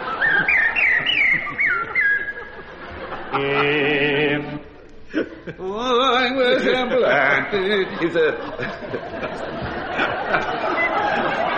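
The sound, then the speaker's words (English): A person whistles an imitation of blackbird song with two fingers in the mouth, through the back of the teeth: fluid, warbling phrases that rise and fall, with chattery, voice-like trills mixed in, loud, continuing for several seconds. “I knew you'd like stuffing two fingers in the appropriate place and whistling through the back of your teeth.”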